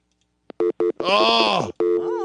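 A phone's electronic ringtone for an incoming call plays loud: two quick beeps, then a long warbling, melodic tone that bends up and down, followed by another steady ringing note.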